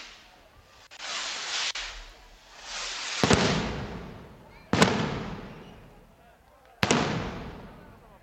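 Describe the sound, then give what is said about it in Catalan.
Fireworks rockets are lit and go off in a loud series: sharp cracks at irregular intervals, each followed by a long hissing, crackling fall, with broad rushing bursts filling the gaps. “i llavors a veure si podem sentir els coets, ho intentem.”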